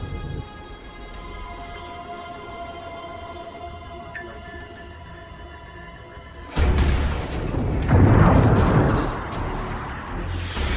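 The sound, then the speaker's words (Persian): A steady mechanical hum gives way to a missile launch: a sudden loud roaring whoosh that swells into a rumbling explosion as the missile is fired near its target and destroyed, lingering to the end, with no voices. “که موشک مسیر 223 زده هوایی مسیر 223 شلیک با نزدیک به هدف شلیک و نابود شد.”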